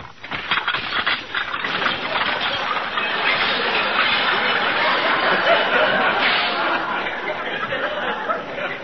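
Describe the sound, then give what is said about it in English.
A new dishwashing machine churns loudly and steadily for several seconds, its clattering din filled with a dense jumble of crashes and clinks as dishes break inside, without a pause. “I don't see why it should break the dishes.”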